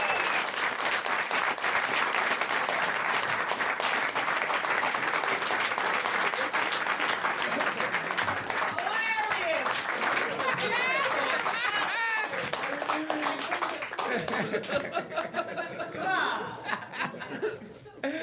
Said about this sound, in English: Everybody, please, a giant round of applause for Bert Kreischer and Andy Kindler. Let them hear it.